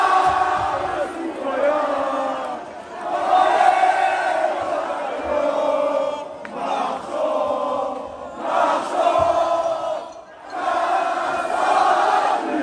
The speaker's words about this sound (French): Donc ça, c'est la Marseillaise à la sortie d'un bar, un festival de klaxons et de pétards.